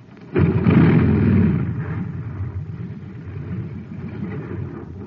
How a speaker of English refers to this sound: A jet cycle has just pulled into a filling station to get its tank filled. The man has it filled with ordinary fuel. Listen.